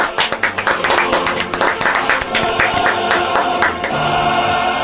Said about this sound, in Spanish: Un aplauso, por favor.